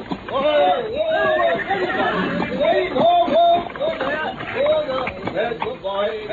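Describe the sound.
A horse drawing an empty, driverless trap whinnies several times over a steady clatter of hooves, loud, with excited voices calling out amid the commotion.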